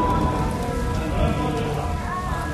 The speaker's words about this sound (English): February 3rd was a particularly lousy Friday. Rain, then hail.